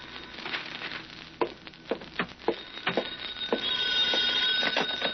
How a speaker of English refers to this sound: It was 11 o'clock that night when the telephone rang in my flat.